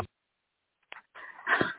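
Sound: dog making noise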